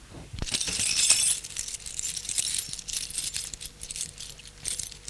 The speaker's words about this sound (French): Il faut que tu me rendes les clés de la maison. Oui, bien sûr. Il sort son trousseau de clés et lui donne les clés.